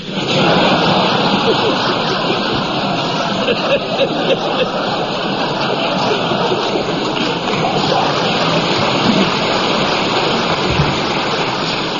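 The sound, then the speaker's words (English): A steady wash of audience applause, dense and even, with many hands clapping at once for the full stretch and no pause or build, holding at a constant loud level. “You know, it's a funny thing, but even after all these years, the sound of Colin's playing still makes me want to clap.”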